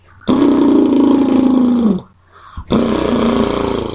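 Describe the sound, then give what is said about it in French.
A person does two sustained lip trills as a voice exercise for voice professionals, buzzing, fluttery voiced brrr sounds imitating a horse's snort. The first runs about two seconds on a steady low pitch, followed by a brief pause and a second trill. “Un exercice que nous donnons à tous les professionnels de la voix consiste à faire un son roulé avec les lèvres à la façon d'un cheval qui s'ébroue.”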